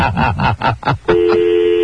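A telephone off-hook tone after a caller left the phone off the hook: a steady, loud electronic hum that kicks in after about a second of rapid, choppy muffled sounds and then continues unbroken to the end.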